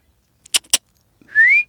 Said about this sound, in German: Oh, nicht pfeifen